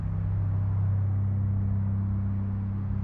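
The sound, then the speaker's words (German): A car on radial tyres drives steadily along a road, a constant low engine drone with a broad wash of tyre noise rolling over the surface, even throughout with no voices. “Dass das Stück jetzt keine Lärmdiskussion auslösen sollte, aber was es ganz sicher in Frage stellt, ist das, wie weit uns eigentlich dieser Klang Auto, Straße, Gürtelreifen eigentlich formatiert als Menschen.”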